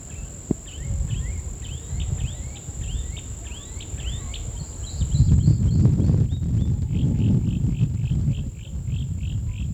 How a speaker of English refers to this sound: We're in an open meadow on a small ridge overlooking a cane field. There's a mockingbird down in the mango tree. It's about 7 o'clock now.